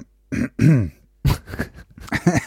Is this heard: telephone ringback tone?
no